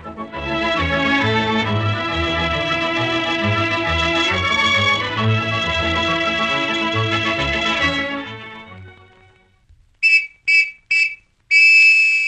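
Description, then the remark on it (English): Orchestral music plays and fades out, then a Sergeant Preston Mounted Police whistle shrills three short, sharp blasts followed by a longer, sustained one, loud and high-pitched with no talking. “We can offer you a sensational Sergeant Preston Mounted Police whistle.”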